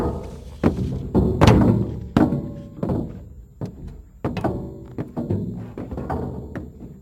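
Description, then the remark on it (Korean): Heavy boots of marines thud and clomp around an engine room in an irregular, overlapping march, several people tramping at once with dull, loud impacts and scuffs between steps; no talking. “기관실 주위에서 들려오는 해병들의 발자국 소리였다.”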